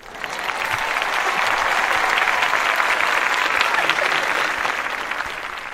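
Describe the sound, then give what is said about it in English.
A room full of people claps steadily for several seconds, a dense, continuous patter of hands that holds at an even level before easing off slightly at the end. “They came back in the room to applaud.”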